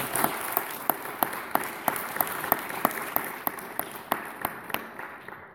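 An audience at an Alcoholics Anonymous meeting applauds a speaker steadily for several seconds, many hands clapping in a dense, crackling patter with a few sharper claps standing out, and no one speaking.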